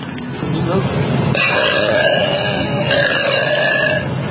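woman burping

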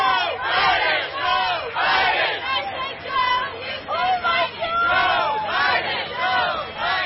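crowd

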